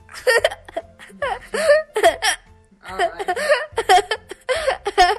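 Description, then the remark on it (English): A child hiccups repeatedly while giggling, fairly loud, with short voiced bursts and breathy laughs tumbling over each other in an uneven rhythm. “Well, before your hiccups and your giggling get out of hand, is there any other final advice you want to give to kids that are moving this summer?”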